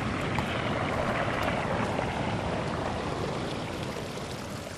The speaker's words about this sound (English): Let's go down to the falls, that's will we? That's the top of the fall there.